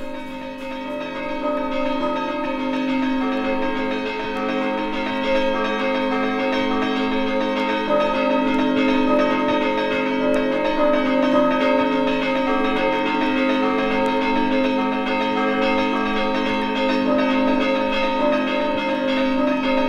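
Church bells are struck by hand in potrkavanje tunes, ringing out in a steady, rhythmic pattern of strikes, loud and continuous for the whole stretch, their rich metallic overtones overlapping and sustaining without any voices.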